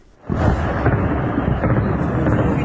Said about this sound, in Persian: زبانه‌های آتش و شلیک ضد هوایی، تصاویری که در شبکه‌های اجتماعی از حملات هوایی گسترده بامداد جمعه در حومه شهر حلب سوریه منتشر شده است.